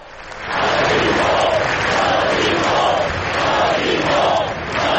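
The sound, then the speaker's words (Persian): A large crowd gathered in a square in central Barcelona, Spain, chants the slogan "we are not afraid" in unison, loud and sustained, voices rising and falling in a repeated rhythmic pattern with a roar of overlapping shouts. “مردم در بارسلون فریاد می زدند که ما نمی ترسیم.”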